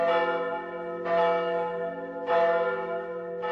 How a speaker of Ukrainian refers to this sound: Нині опівночі вірним римо-католикам церковні дзвони сповістять новину – Христос воскрес!